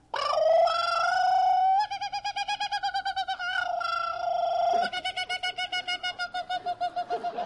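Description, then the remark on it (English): A man imitates a kookaburra's call with his voice: a loud, sustained hooting tone that breaks into rapid, rhythmic cackling bursts, alone for several seconds. “he sings out like a kookaburra.”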